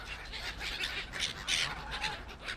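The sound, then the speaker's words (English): A busy chorus of ducks and geese at a pond calling over one another in a frenzy over thrown bread, with repeated honks and quacks in overlapping bursts at steady loudness and no talking. “The last bits of bread have just been thrown out, and the seagulls are swarming in, trying to steal it off the ducks. It's almost as if the geese are keeping score.”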